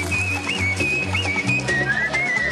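A person whistles a thin, wavering tune with little pitch swoops, fairly steady throughout, over a low, constant hum in the background.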